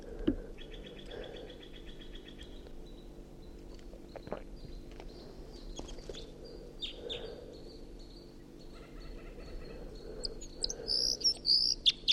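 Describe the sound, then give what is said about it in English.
A wild bird perched in a tree above a net at 6:01 AM sings in bright, high chirps and short warbled phrases that grow louder toward the end, over a steady low hum and faint insect-like buzzing, with no one talking. “That was a wild bird.”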